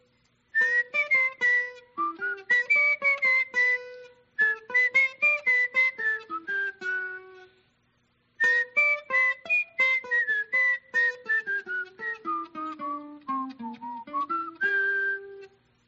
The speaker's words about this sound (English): but that's an illusion because he's whistling it right before he plays it. That's what he said. It's so fast, this connection is so fast that it seems like it's the same time, but it is not the same time. It's right after the whistling.